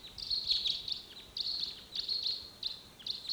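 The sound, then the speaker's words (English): High, thin calls of wild birds coming in, in repeated bursts of rapid chirping, several overlapping trills with brief pauses between them, fairly quiet and with no talking. “Meanwhile, some other wild birds are coming in here.”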